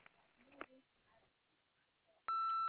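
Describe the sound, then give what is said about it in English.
A single loud, steady electronic tone starts abruptly near the end and holds for about half a second, an answering-machine beep following a faint, quiet stretch with brief soft noises. “We are unable to answer the phone right now. Please leave us a message after the beep.”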